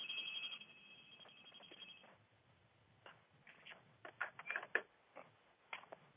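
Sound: telephone ringing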